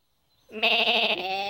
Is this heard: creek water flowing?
no